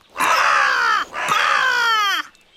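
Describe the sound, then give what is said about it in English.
A crow gives two long, harsh caws in quick succession, loud, each one rasping and slightly falling in pitch, with a brief pause between them and no voices. “The crow opens her beak and starts to sing.”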